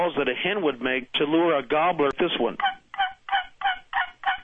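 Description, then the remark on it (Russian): A wooden box call, a turkey-hunting lure imitating a hen turkey calling to males, gives about six evenly spaced, raspy, high yelps, following a few seconds of loud, warbling turkey-like calls. “Такой звук издает манок, специальный деревянный ящичек, размером и видом похожий на станочек, на котором наши дедушки точили бритвы до появления безопасных бритв.”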